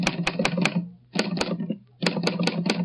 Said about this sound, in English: I'll type out the exact phrase for you now on my Underwood typewriter.